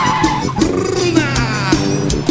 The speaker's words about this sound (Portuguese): Olha o barulho do motor.